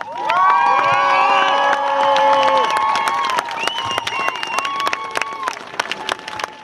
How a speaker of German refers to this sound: Und wenn ihr der Meinung seid, wir sollten das so in dieser Art oder so ähnlich nochmal machen, würde ich euch jetzt bitten, nochmal so laut wie möglich zu klatschen.